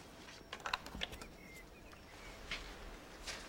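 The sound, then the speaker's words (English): A quick cluster of sharp mechanical key clacks, then two more isolated presses after a pause, as keys on a cipher machine with rotors in order 3, 5, 4 are struck, each press changing the path of the current to the lamps. Quiet, with no one speaking. “And every time you press a key, it changes the path of the current.”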